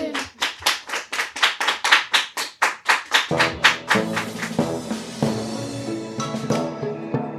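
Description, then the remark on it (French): Steady, rhythmic clapping in unison, like the audience of the circus Imagolo clapping along in time, loud; after a few seconds music swells in underneath while the clapping continues. “Ils naissent au cœur de jolies fleurs bleues, sont funambules et sautent dans le public. Applaudissez!”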